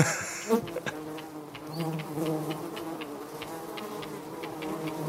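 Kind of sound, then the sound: insect, mosquito swarm buzzing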